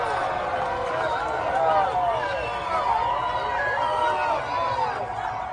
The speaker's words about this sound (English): You tell me if you hear, I maybe hear a boo or two, but for the most part, it sounds like a cheer to me.